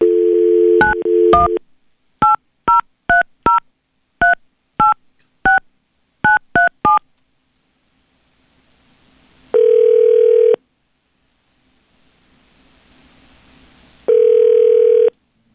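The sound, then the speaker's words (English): About a dozen quick touch-tone beeps dial a number in uneven clusters, then after a pause a steady ringing tone sounds twice, each ring about a second long. No one speaks. Radio station B93.7's hosts are placing an on-air phone call to a woman. “Well, let's get her on the line and see if she will give us some info on that.”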